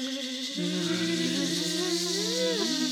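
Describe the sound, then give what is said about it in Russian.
A steady insect buzz of wasps flying out after feeding drones for a few seconds, its pitch bending and rising briefly near the end as they fly off. No one speaks. “Подкрепились осы и вылетели наружу.”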